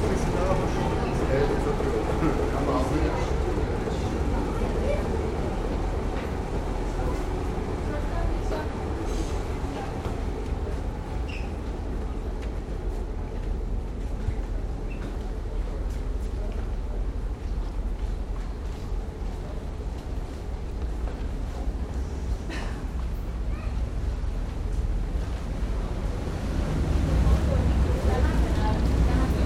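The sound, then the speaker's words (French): A crowd shuffles aboard a ferry at a pier, with a dense murmur of many voices over a steady, deep engine rumble that continues throughout, fairly loud. “Alors là, on est en train de s'enfoncer avec la foule pour rentrer dans le bateau.”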